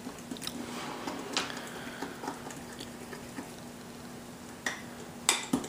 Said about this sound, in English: Okay, to this we're gonna be adding our rice flour, our cornmeal, and our besan or chickpea flour. And we're gonna give it a good mix here.